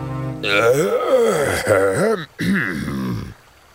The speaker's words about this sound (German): … räuspert sich.